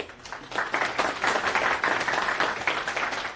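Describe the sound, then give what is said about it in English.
An audience applauds steadily as the next speaker of a cloud-native technology talk is introduced, a dense wash of many hands clapping at once that stays fairly even in loudness for a few seconds, with no voices on top. “Always fun, so round of applause.”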